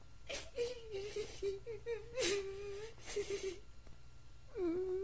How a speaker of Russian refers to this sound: Мальчик, здравствуйте. Почему вы плачете?